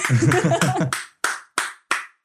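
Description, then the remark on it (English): Rhythmic Norteño-style hand clapping: a busy stretch of claps mixed with voices, then four or five sharp claps in a steady, evenly spaced beat, each ringing briefly. “Oh, that is a Norteño clap if I've ever heard one.”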